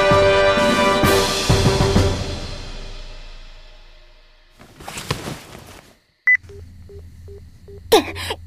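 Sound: telephone keypad dialing tones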